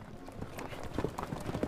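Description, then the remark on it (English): Horse hooves clip-clop down Main Street in a steady, uneven rhythm, several hoofbeats close together at moderate volume, with faint background murmur. “Horses are coming down Main Street.”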